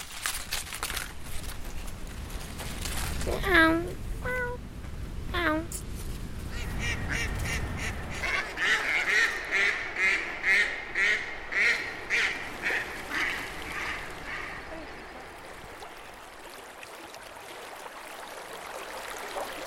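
Ducks quack outdoors at Burla, a few harmonic calls early on, then a rapid run of about ten nasal quacks in a rhythmic series, over a low rushing background like flowing water.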